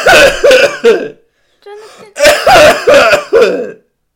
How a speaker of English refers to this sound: I get like this, I sometimes go through cough, I just get cough attacks